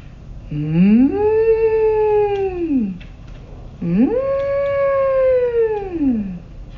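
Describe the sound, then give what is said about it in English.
Agent Monica Reyes imitates whale song while preparing Scully for labor: two long, loud moaning calls, each sliding upward, holding steady, then dropping away, separated by a brief pause, clear with no talking. “Agent Monica Reyes making whale sounds while preparing Scully for labor.”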